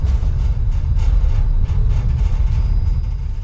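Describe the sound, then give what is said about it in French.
A bright orange rail-greasing tram, a Czech invention known in Prague as the Mazachka, runs along tram tracks in Prague with a loud, steady low rumble, a continuous rolling drone with faint higher rattles on top, and no voices. “crissements produits par le passage des véhicules sur la voie ferrée. Il s'agit du tramway de graissage”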